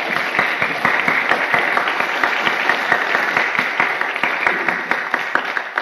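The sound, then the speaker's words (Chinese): A church audience applauds steadily for several seconds to thank and welcome a visiting pastor, many hands clapping in a dense, even patter with sharp individual claps poking through. No one speaks over it. “我们做一个表示，我们鼓掌表示感谢和欢迎。”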